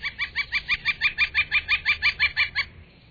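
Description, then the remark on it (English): A northern flicker (Colaptes auratus) calls a loud, rapid series of about fifteen ringing, evenly spaced notes, clear, that stops abruptly after a couple of seconds. “The northern flicker, a bird with a gorgeous Latin name, Colaptes auratus, the golden chiseler.”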